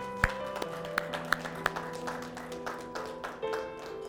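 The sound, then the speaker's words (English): A standing audience claps their hands for the mothers in a dense, steady wash of applause, with a few sharper, louder claps standing out over sustained tones of music underneath. “Could we all stand, give our mothers a great big hand clap?”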